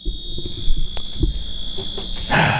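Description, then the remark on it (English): A fire alarm blares with a steady, piercing high-pitched tone throughout, loud and continuous, over low rumbling background noise and a few scattered knocks. “She said, I can hear the alarm on the radio.”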